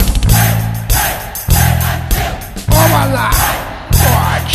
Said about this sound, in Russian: А чё-то они кричат? Кию какой-то? А, кию любить, убить хотят.